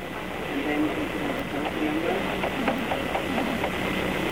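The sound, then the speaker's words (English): Keys tapped on a keyboard in an irregular run of quick, light clicks over a steady background hum with faint murmuring voices underneath. “The sound of a keyboard being tapped.”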